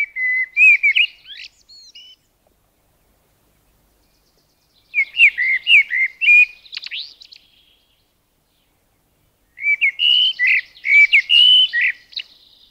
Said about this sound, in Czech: Pravidelný zpěv celého sboru kosů je slyšet nejlépe z jara, brzy ráno a pak pozdě na večer. Jednotliví kosové zpívají ovšem po celý den.